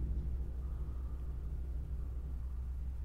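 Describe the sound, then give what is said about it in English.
A drill runs continuously, a steady low motor drone with a humming, buzzy tone that holds even for about three seconds, with no speech over it. “Sound like a drill.”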